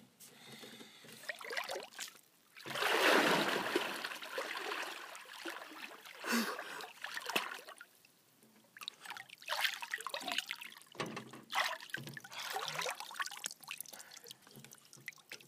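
Cold lake water splashes and trickles in irregular bursts, a louder sloshing surge early on, then intermittent splashes and drips of moderate loudness with no talking.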